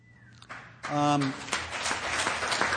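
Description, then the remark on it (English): An audience at an Alcoholics Anonymous talk breaks into clapping after a quiet moment, a dense, steady wash of many hands that holds to the end, with one voice briefly calling out over it at the start. “You don't have to worry about clapping because alcoholism gallops in my family.”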